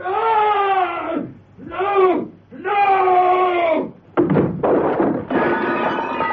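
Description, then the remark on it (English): A loud, terrible scream rises in three strained, wailing bursts, then a heavy crash of breaking, clattering debris bursts in and rumbles on for a couple of seconds. “The silence was shattered by a terrible scream and a crash.”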